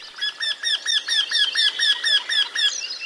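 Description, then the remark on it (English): A Eurasian wryneck gives its call, a rapid run of about a dozen nasal, ringing notes repeated evenly and loudly, with no other voices. “Today, the Eurasian wryneck seems harmless enough, although its scientific name, Jinx torquilla, honors its neck-twisting, bewitching reputation.”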